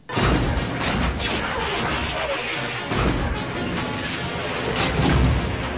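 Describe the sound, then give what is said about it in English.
Loud, dense explosions of blaster fire flare close by a ship as Chewbacca tries to evade them, rumbling almost continuously, with heavier booming bursts near the start, middle and end, and no voices. “Fresh explosions continued to flare close by despite Chewbacca's best efforts at evasion.”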